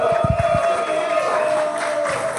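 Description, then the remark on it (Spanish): A crowd cheers and applauds a performer who has just finished a set, in a steady, dense wash of noise, with whoops and a sustained whistle-like tone carrying through the whole burst. “¡Fuerte aplauso!”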